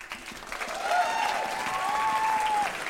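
An audience at Caveat in New York City claps steadily for about three seconds, a dense patter of many hands that swells slightly after the first second, with a few faint whoops or cheers rising above the applause.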